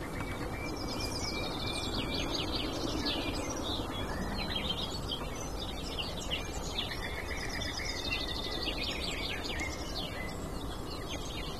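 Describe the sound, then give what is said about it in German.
A small bird gives its repeated sharp, clicking contact and warning calls, like two small river pebbles knocked together, mixed with other bird chirps over a steady outdoor background hiss. “Bei uns heißt sie auch die Kieselsteine, weil ihr Kontaktruf und ihr Warnruf klingt wie zwei kleine Flusssteine aneinander geschlagen.”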